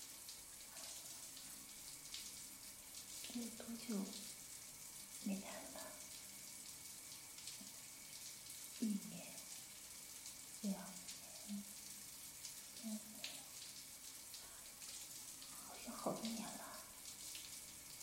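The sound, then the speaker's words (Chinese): A steady, even hiss of shower water runs throughout while a woman washes herself, her voice speaking softly in short bursts over it. “下面的淫水用淋浴都冲不掉了啊！”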